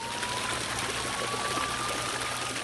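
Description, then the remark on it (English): Floodwater being pumped out of stores by business owners around the town square in Peabody, Massachusetts, pours in a steady, continuous rush, fairly loud, with a thin constant whine running underneath. No one speaks. “Around the town square in Peabody, Massachusetts today, business owners who could get to their stores were pumping out water.”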